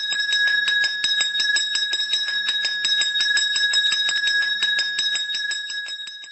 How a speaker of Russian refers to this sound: Послушаем один вариант, как звучит колокольчик, ну, например, это может быть и последний звонок, а может быть просто звонок на перемену.